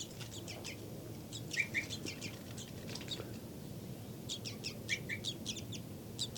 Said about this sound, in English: Flight call series by 5-9. Louder begging by the baby. Flight call series by 5-9.